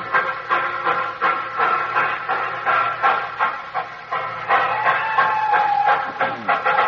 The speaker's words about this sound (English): Well, you know, that was a jolly happy crowd there at the station, wasn't it? Yes. Still Christmas, despite the fact that most of them all want to get out of the town and go somewhere.